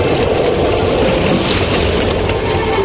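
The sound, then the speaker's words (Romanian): A loud, steady roar of a rough, stormy sea, with churning waves washing, surging and crashing against each other continuously and no distinct pauses between them. No one speaks. “A mers până a auzit valurile mării vuind și lovindu-se cu mânie unele de altele.”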